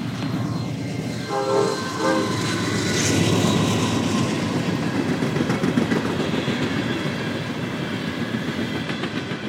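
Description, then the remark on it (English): A Norfolk Southern freight train rumbles past on the main line, its horn sounding briefly near the start, followed by a steady, loud roar of wheels and rail cars rolling through without pause. “Here comes a train. This is Norfolk Southern, main line.”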